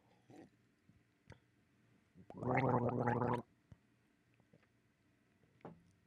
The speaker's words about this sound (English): I had to get down low because you got to tip your head back, and I had to get my mouth around where the microphone was. So yeah, I just gargled. I did some gargling.